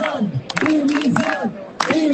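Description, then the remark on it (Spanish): A protest crowd at a rally in the Plaza de la Marina in central Zamora shouting in rhythmic bursts against president Mañueco and the environment councillor, demanding resignations in the Junta; loud chanted cries rise and fall in unison with brief gaps, voices mixing into a dense roar. “Se han pedido dimisiones en la Junta, se han escuchado gritos contra el presidente Mañueco, el consejero de Medio Ambiente y sus directores generales.”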